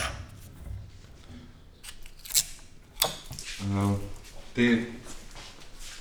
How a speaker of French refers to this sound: Ça, c'est un instrument pour couper.